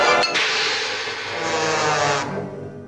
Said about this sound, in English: In this Tom and Jerry clip, the sound of a frying pan hitting Tom's face is played by a cymbal crash.